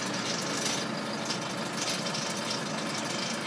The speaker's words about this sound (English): Well, actually, to be exact, that's what Hanley's lorry, this has got bits of fencing on it, sounds like.